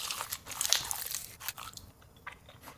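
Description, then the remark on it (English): A crunchy bite into giant spicy fried chicken, followed by a few seconds of crackly chewing with bursts of crisp, high-pitched crunch and no talking. “Giant spicy chicken.”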